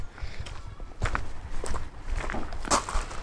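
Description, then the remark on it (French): Footsteps walk on beyond a parking lot, heading to meet the family who runs an association, in a steady, somewhat uneven rhythm, each step a soft, gritty scuff of moderate loudness over a low background rumble, with no voices. “Je m'avance au-delà du parking pour aller à la rencontre”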